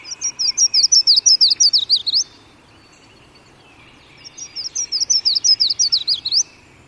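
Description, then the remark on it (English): A yellow-throated warbler in a bayou sings twice, each song a rapid series of about a dozen clear, high, sweet notes that descend slightly, separated by a pause of roughly two seconds, with no talking. “And these yellow-throated warblers join many songbirds in testifying to the bountiful habitat of the bayou.”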